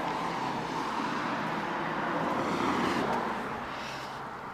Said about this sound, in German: Nach ein paar Treppenstufen stehen wir unten vor der Haustür. Was hörst du? Das ist ein großer Verkehr, aber ich glaube, es ist schon lauter als sonst.